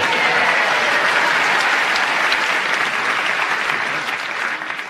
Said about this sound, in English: your request for applause increased your reaction there